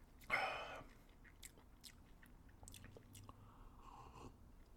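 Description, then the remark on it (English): A loud slurping sip of a lemon-flavoured 6.3 beer with Meyer lemon aromatics at the start, followed by scattered soft mouth clicks and a faint swallow-like gurgle, with no talking. “I think you should take a sip and let us know what you think.”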